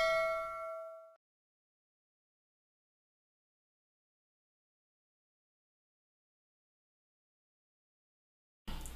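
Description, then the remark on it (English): A single bright notification bell ding rings out at the start, its clear metallic tone fading over about a second, followed by a long stretch of silence before a brief burst of sound at the end. “If you haven't already, buzz that bell.”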